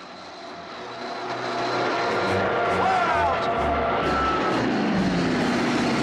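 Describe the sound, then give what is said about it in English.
A loud airplane engine roars, swelling over the first two seconds and then holding steady and rough as the plane tips violently while landing on a runway, with a voice shouting over it. “Elaine puts her hands to her face as the plane tips violently.”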